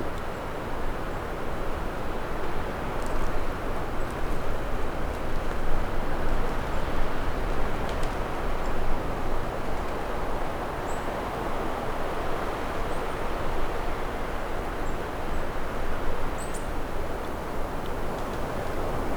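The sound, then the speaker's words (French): Wind rustles through tree branches on a Pyrenean mountain at around 1200 metres in a steady, dense hiss that swells and eases gently without pause, with a few faint ticks high above the rushing noise and no voices. “Les ramures qui bruissent.”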